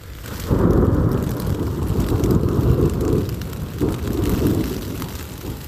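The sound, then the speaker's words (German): Deep, rolling thunder from a thunderstorm in Iran, with lightning flashing bright as day, a sustained low roar that swells, dips briefly, then rumbles on again, with a faint hiss of rain in the background and no one speaking. “Boah, krass, ey, wenn es blitzt.”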